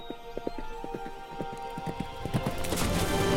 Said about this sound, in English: Pink hooves muddy the puddle. A horse and its rider leap over a fallen tree.